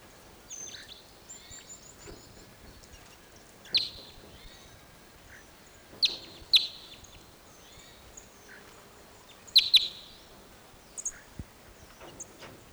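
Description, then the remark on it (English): Birds call from an Apache pine in scattered bursts of high, sharp chirps and tweets, with stronger clusters at intervals over a faint, steady background hiss. No one speaks. “Those birds all went down lower into another Apache pine set.”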